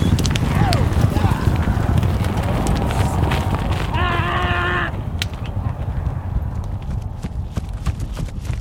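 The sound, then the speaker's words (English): An Arabian horse's hooves clip-clop in a quick, steady rhythm as a trainer runs it in a circle on a rope, recorded with wireless microphones on its hooves, amid a loud, noisy background, with a brief high tonal call rising midway before the sharp hoofbeats continue. “I recorded an Arabian horse.”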